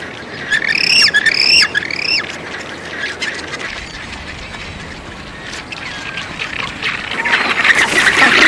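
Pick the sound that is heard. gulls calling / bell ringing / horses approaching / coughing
gulls calling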